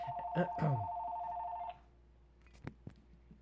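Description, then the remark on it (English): A telephone rings once in a place of business with a steady electronic two-tone trill lasting under two seconds. A brief voice overlaps the start, and a couple of soft clicks follow. “I record my podcast here in my place of business, and sometimes the phone actually ringing.”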